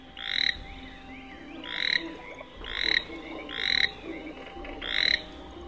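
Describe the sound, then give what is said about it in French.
A toad croaks in a steady series of five rising, buzzy calls, each about a second apart, fairly loud over a faint outdoor background, with no talking. “Comme elle, le crapaud n'a jamais été admiré.”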